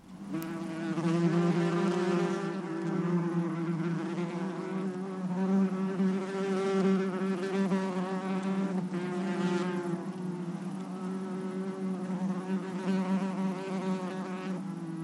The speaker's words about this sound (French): La réponse est abeille. Abeille.